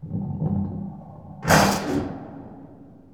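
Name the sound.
alligator roar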